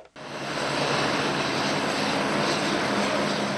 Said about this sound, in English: Helicopters fly in and out of Mozambique's Beira Airport, the center of humanitarian relief operations for Cyclone Idai.